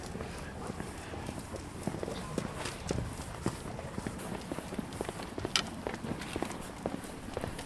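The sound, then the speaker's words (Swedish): Brisk footsteps walking alongside a guide dog, a quick steady rhythm of sharp taps and scuffs, with soft jingling and faint rustle underneath; no one speaks. “Det är raska steg.”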